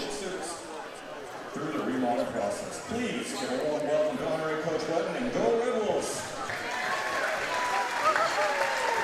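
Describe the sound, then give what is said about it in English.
Steady indoor crowd murmur echoes through a school gym as the crowd is still filling in at night before the starting lineups, many overlapping voices chattering, with scattered footsteps, claps and a few louder calls rising and falling throughout. “We've got a good crowd here tonight. Crowd's still filling in here inside the Wolf Den.”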